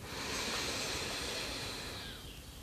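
A long, steady deep breath drawn in slowly during a guided meditation, an airy hiss lasting a couple of seconds before tapering off, fairly soft with no voices.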